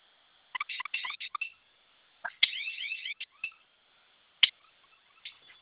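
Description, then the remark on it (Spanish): An alarm panel goes off after its two flame-symbol buttons are held down, in short bursts of shrill, warbling electronic tones, broken by pauses and a sharp final beep, sounding tinny and narrow as if heard over a phone line. “Los va a mantener presionados los dos y en cuanto suene la alarma va a ingresar su clave, ¿sí?”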